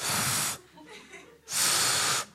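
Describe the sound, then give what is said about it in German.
Two loud, breathy hisses of air blown through pursed lips as the kangaroo tries to whistle, each about half a second long, with no clear whistle tone emerging; a softer murmur of breath fills the pause between them. “Es bläst nochmal Luft durch die Lippen.”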